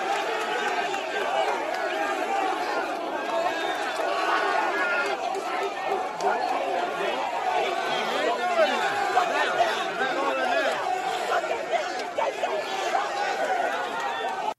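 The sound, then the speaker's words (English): A mob of Ole Miss students making monkey noises at a Black woman, a dense, steady wash of many overlapping voices whooping and chattering at once, loud throughout with no single voice standing out. “So that is Ole Miss students making monkey noises at a black woman, kind of a mob of Ole Miss students.”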